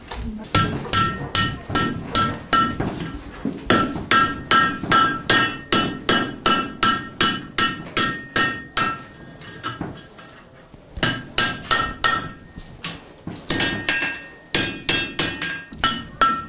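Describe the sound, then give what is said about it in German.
A blacksmith's hammer strikes iron on an anvil in a smithy, forging the iron while it is at the right temperature, in a fast, steady rhythm, each blow ringing metallically, with a brief pause midway before the hammering resumes, loud. “Und dann geht es nämlich am schnellsten, das ist mit ein paar Hammerschlägen fertig.”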